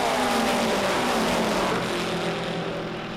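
A loud, continuous engine roar fills the whole stretch, its droning pitch sliding gently lower as racing cars sweep past on the track at 190 laps, 10 laps from the finish, fading slightly toward the end.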